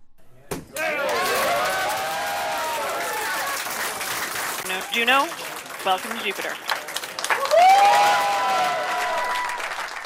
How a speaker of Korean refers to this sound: 나사의 무인 우주 탐사선 주노호가 목성 궤도에 진입하자 나사의 과학자들이 환호하며 기뻐했는데요.